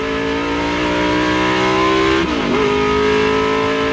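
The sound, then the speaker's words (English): Hawthorn's loud Jaguar race car engine roars steadily at high revs, its pitch briefly dipping midway as it flies past Lance Macklin's Austin Healey, then settling back into a sustained whine as Hawthorn brakes hard to enter the pit. No voices. “His Jaguar flies past Lance Macklin's Austin Healey. Once Hawthorn clears Macklin, he hits the brakes hard so that he can enter the pit.”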